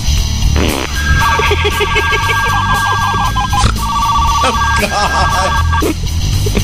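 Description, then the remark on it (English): A novelty joke fart phone rings loudly with a bright, repeating electronic trill over a busy, noisy background, with odd comic sputtering bursts mixed in between the rings. “Was that the fart phone? That was the fart phone.”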